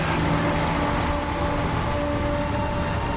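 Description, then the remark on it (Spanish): A steady, loud rumble of a bus driving along a tree-lined road, with a constant engine drone and faint tonal whine running throughout and no voices. “El autobús circula por una carretera flanqueada de árboles.”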